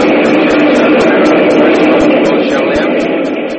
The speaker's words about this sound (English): Train out there. I couldn't hear.